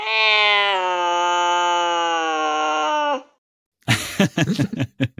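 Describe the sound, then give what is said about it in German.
A loud, drawn-out cat yowl holds a steady, strained tone for about three seconds, then cuts off; after a short silence come a few brief, choppy voice-like bursts. “Ja, sorry, liebe Katzenfreundinnen und Freunde, das muss jetzt sein.”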